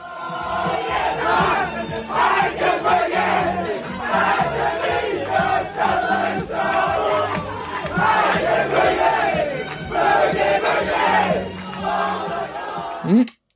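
The Scotland national football team sings together in its dressing room: many loud, rowdy voices chanting a rhythmic, bouncy melody in unison, steady throughout before cutting off abruptly at the end.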